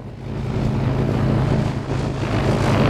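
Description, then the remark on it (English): A steady, droning engine roar with a low harmonic hum from a small propeller plane flying between Juneau and Haines in strong gusty winds, loud and continuous with some wind-like rushing noise. “Harris Air is flying between Juneau and Haines, despite the gusts.”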